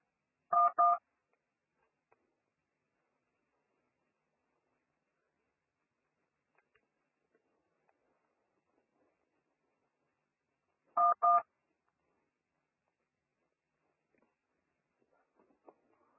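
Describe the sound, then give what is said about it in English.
Two brief pairs of telephone keypad tones, quick electronic beeps pressed in close succession, separated by a long stretch of near silence, with only faint scattered clicks afterward. “Okay, once you hear the beep sound, simply dial the number.”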